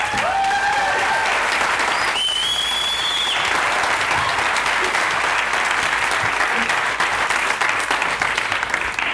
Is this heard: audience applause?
yes